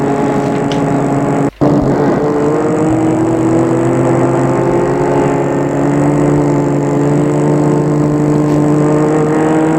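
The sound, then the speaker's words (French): A car engine hums steadily and loudly as the vehicle cruises along a road beside the Seine, its pitch gently rising and settling, with a brief cut partway through and no voices. “Prend une route qui longe la Seine. Jusqu'à ce qu'il trouve un coin tranquille pour nettoyer la voiture.”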